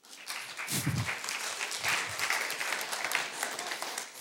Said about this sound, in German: Und einen Applaus natürlich.